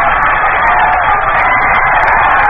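baseball stadium crowd cheering

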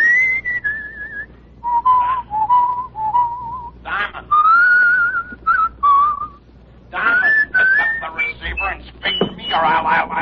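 person whistling a tune

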